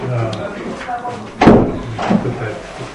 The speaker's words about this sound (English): Okay, we can close the door? Okay.